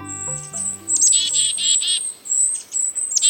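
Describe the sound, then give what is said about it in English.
A lively chorus of a mixed foraging flock of small birds, including chickadees, kinglets and a downy woodpecker, in a temperate woodland, chirping and twittering together, high thin calls and rapid trills overlapping continuously, with a brief low tonal note at the start and no talking. “Take a walk in a temperate woodland this month, and you might hear this chorus.”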